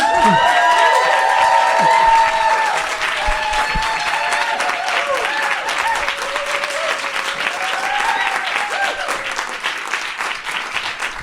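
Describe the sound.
Loud, sustained applause from a crowd, a dense wash of clapping lasting about eleven seconds, with some cheering voices mixed in and easing slightly after the first couple of seconds.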